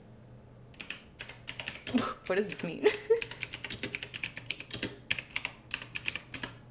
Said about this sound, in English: I have a really loud keyboard. I'm sorry. I like the clicky clackies of a mechanical keyboard.